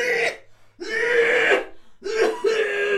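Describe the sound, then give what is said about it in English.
Three loud, harsh bursts of a woman's violent coughing in a restaurant, each strained and rasping, separated by brief pauses, with no talking around them. “The violent coughing turned into retching.”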